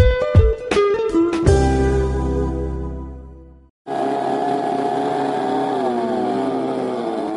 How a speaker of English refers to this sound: It's the first time motorbikes have been on these sands in six decades. The wet and windy weather kept swimmers and surfers away to allow the classic and vintage bikes to make a comeback for a special race.